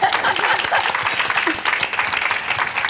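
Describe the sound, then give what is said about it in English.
Steady applause fills the whole stretch, a dense, even patter of many quick claps without pause, fairly loud and consistent from start to finish with no voices breaking through. “I just want to applaud that.”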